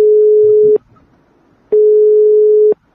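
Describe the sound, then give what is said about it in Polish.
A steady, mid-pitched telephone ringback tone of an unanswered call to the president of the firm GreenTech, Artur Kurzyk, sounds in long pulses, about a second on and a second off, with quiet gaps between them and no voices. “Pan prezes firmy GreenTech nie odbiera telefonu.”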